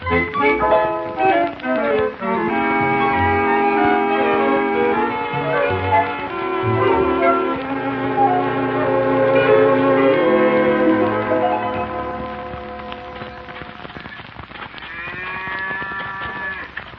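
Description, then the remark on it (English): Farm ambience of clanging bells and low cattle moos, with sustained tonal, musical-sounding layers throughout and a brief rising call near the end. No one speaks. “This is a farm”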